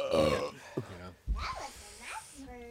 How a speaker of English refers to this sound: That was a nice burp. Thanks, bud.